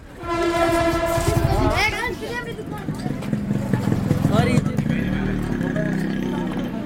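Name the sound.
train running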